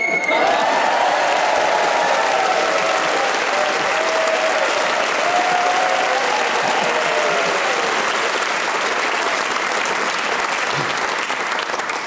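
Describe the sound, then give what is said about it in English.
A large auditorium audience applauds steadily for about twelve seconds as a panellist finishes speaking for the full minute, a dense, loud wash of clapping with a few faint cheers and whoops rising through it. “Joy in the auditorium as … speaks for the full minute, gets an extra point for doing so, and a point, of course, for speaking as the whistle went.”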